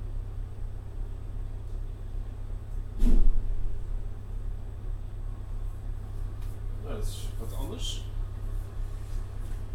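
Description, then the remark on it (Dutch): A car engine idles outdoors in the street with a steady, low rumble throughout, interrupted by one brief louder burst early on and some fainter clatter near the end. “Het is zo vaak merk ik dat er auto's staan in de straat, überhaupt op straten, die laten hun motors draaien alsof het niks is.”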